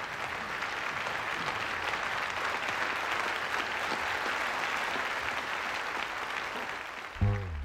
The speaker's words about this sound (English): Hundreds of young men and women, mostly white, rise to their feet as they applaud. Baldwin takes his seat, glancing up at the tribute surrounding him.